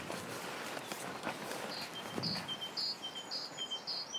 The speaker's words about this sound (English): There's a challenge to my audience. What are the birds making that sort of repeated chirpy noise?